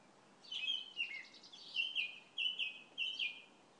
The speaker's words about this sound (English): I have no idea what this bird is, but what an amazing range.